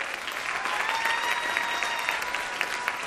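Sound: audience applause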